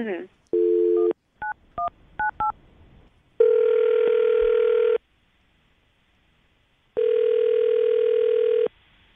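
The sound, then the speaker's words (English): A brief dial tone and a quick run of keypad beeps give way to two long, steady ringback tones from an outgoing phone call, separated by a silent pause. No one speaks. “Okay, I'm going to call him right now, see if we can get him on the phone.”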